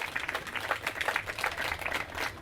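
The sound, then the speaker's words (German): A crowd applauds for the people who made the event possible, a dense patter of many hands clapping at once that holds an even level for the whole stretch without rising or fading. “Bitte einen Applaus für alle Leute, die das hier irgendwie möglich machen.”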